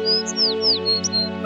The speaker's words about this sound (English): The birds are singing.